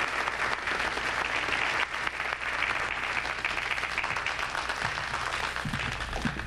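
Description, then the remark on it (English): A large audience at a live show in Las Vegas applauds the introduction of Red Fox. The clapping is steady, a dense continuous wash that holds at full strength for several seconds, with faint scattered voices and low hum underneath. “Thank you very much. I noticed some of you didn't applaud.”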